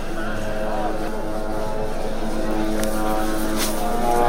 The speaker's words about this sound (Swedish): Israeliska drönare surrar över sjukhuset där Sveriges Radios medarbetare Sami Abu Salem befinner sig.